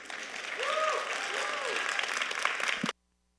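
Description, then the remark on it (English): Steady audience applause welcoming a guest preacher at a Sunday worship service at Renewal: a dense wash of many hands clapping that swells after half a second and holds evenly before cutting off abruptly near three seconds; faint arcing whistle-like tones ride underneath early on. “So please welcome with a warm round of applause, and we'll get to hear his preaching.”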